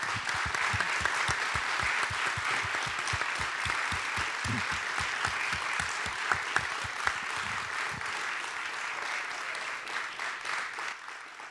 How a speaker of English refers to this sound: Any veterans or active service members in the audience, would you raise your hand or please rise? Can we give you a round of applause for your service?